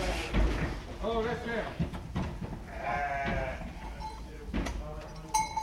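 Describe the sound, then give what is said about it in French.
Ewes bleat repeatedly during shearing in a sheepfold, their wavering cries overlapping, with a steady low rumble and indistinct voices in the background. “Alors du coup, ça fait du combien de brebis à l'heure à peu près ?”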